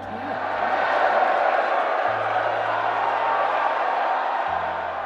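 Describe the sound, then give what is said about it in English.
A large crowd roars and cheers continuously, a dense wash of shouting voices and whoops that stays loud and steady for several seconds, with a low hum running underneath. “The crowd erupted, and with word trickling outward, Data Loss stock was skyrocketing”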